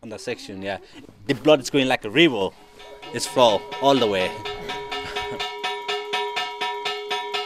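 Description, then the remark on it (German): Voices sing or chant at first, then a small bell rings rapidly and steadily at a Hindu shrine in Kathmandu, Nepal, its repeated metallic strikes blending into a sustained ringing tone that continues to the end. “Auch in der Hauptstadt Kathmandu ist allerorten das Glockenschlagen an Hindu-Schreinen zu hören.”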